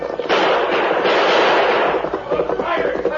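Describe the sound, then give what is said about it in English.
A loud, rapid burst of gunfire: many overlapping shots crack and rumble together in a dense barrage lasting a few seconds, with no one speaking. El Diablo is exchanging shots with the oncoming masked man and Indian during a horseback chase in the Lone Ranger. “Blackie and Tex turned and urged their horses into a gallop up the opposite slope, while El Diablo held back to exchange more shots with the oncoming masked man and Indian.”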